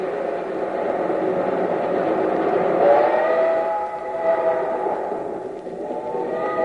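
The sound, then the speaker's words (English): A steam locomotive rumbles along steadily, its heavy rolling roar continuous throughout, with thin whining tones rising out of the noise midway before easing back into the churn. “Roll, you engine, roll.”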